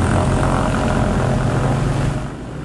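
A propeller airplane engine drones steadily and loudly in flight, a dense continuous roar with a low throbbing hum, easing slightly near the end. The plane is analog, with nothing digital about it. No one speaks.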